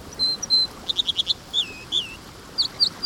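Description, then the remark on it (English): An American dipper, a plump steel-gray songbird of fast-flowing streams, sings a varied, high-pitched song of clear whistles, a quick run of repeated notes and slurred phrases, distinct over a steady rushing background. “This American dipper thrives in fast-flowing streams.”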